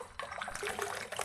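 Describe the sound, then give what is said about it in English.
Water trickles and splashes in a bath, a steady, bright, bubbling wash of sound with small irregular sloshes, moderately loud and alone without voices. “Bath time. It's awfully busy in that water, isn't it?”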